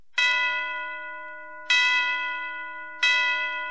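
Three loud, resonant church bell strokes, evenly spaced about a second and a half apart, each ringing out brightly and slowly fading before the next. No voices.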